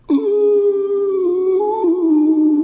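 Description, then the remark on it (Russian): A wolf, standing on all four legs, gives a single long, loud howl held steadily for nearly three seconds, its pitch wavering slightly and dipping briefly toward the end, with no talking. “Волк встал на четыре лапы и завыл.”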